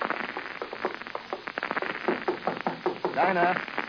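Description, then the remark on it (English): A series of sharp raps on a door, knocked in quick irregular bursts over steady background hiss, with a brief voice rising near the end. “However, there's nothing in my book of etiquette that says I can't knock on her door.”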